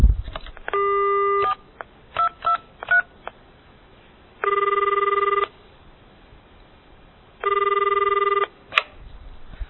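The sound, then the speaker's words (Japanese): A phone call being placed to a moneylender: a quick series of keypad-style beeps, then a ringback tone buzzing in three roughly one-second bursts with pauses between, clear with no voices. “被害者は融資を受けたい一心で犯人の言うことを信用し、犯人が指定する口座に6万円を振り込み、すぐに貸金業者にそのことを電話しました。”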